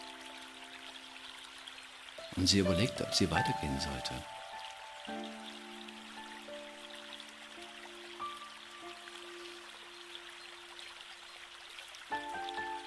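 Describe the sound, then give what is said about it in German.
River water splashes and burbles in a brief louder burst, then keeps up a soft rushing background while a woman speaks calmly over it. “Und es plätscherte wundervoll.”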